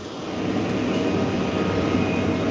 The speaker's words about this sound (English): Yeah, there is still a dump truck noise. Yeah, I don't know if it'll work. Me neither. It's really annoying.